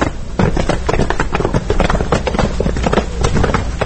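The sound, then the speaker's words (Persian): National Army soldiers marching in step during foot drill training at the former 35th Brigade base in Maymana, many boots striking the ground in a steady, loud rhythm that continues throughout, with no voices over it. “غند 35 اسبق میمنه یکی از قرارگاه های اردوی ملی و نیروهای ائتلاف بین المللی می باشد که در آن قسمتی از قوات های اردوی ملی در حال حاضر مستقر بوده و در کنار وظایف محاربوی، جمع نظام و غیره موضوعات را آموزش می بینند. آرام سی، آور سی، تعلیم قدم مرش.”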